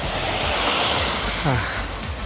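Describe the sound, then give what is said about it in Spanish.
A steady, loud outdoor hiss of light rain mixed with rushing wind buffeting the microphone while cycling, with a brief murmur of a voice partway through. “Con esta mini lluvia.”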